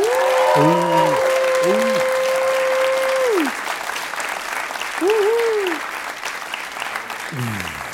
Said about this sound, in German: Und jetzt euer Applaus für Philipp und die Frage nach dem Zwanni. Euer Applaus.